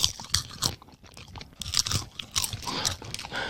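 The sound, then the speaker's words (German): Popcorn crackles and crunches while being chewed, a string of sharp, irregular dry bursts with short pauses between them, moderately loud and with no one talking. “Es knistert. Ach, wie dieses Zeug, was man sich in den Mund stecken kann. Ja, wie diese Knisterbrause oder...”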